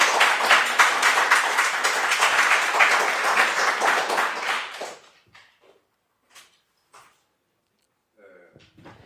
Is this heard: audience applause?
yes